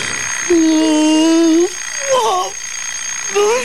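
A voice imitates an alarm clock: a long, steady, buzzy held tone followed by two short warbling, rising-and-falling bleeps, loud with a faint hiss behind.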